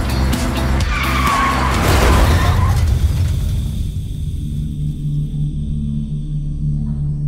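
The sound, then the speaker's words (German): Car tires screech loudly in a skid lasting a few seconds, ending in a rough, noisy jolt, then a low engine-like rumble lingers with no voices. “Bei einem heftigen Unfall geht es um Sekunden.”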